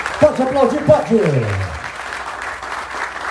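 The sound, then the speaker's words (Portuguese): An audience claps steadily throughout at the close of a government ceremony about vaccination, a dense crackling wash of applause, while a voice speaks loudly over it for the first half before the clapping continues on its own. “Pode aplaudir, pode!”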